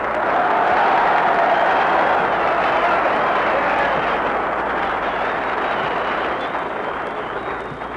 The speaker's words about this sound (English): Darn it, that's more applause than I got.